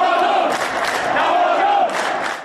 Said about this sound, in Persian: در تهران طرفداران تیم استقلال یک صدا فریاد زدند.